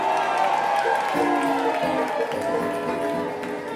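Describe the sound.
An audience applauds steadily for a few seconds, with the clapping blended into a loud wash of crowd voices and cheers that holds at an even level throughout.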